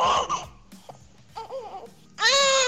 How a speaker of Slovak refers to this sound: je to prvý plač dcery …, takže naša prvorodená má dnes narodeniny